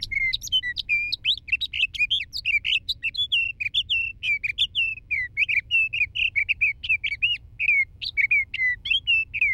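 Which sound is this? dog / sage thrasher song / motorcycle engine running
sage thrasher song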